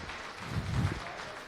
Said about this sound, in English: Yeah, give thank him a round of applause.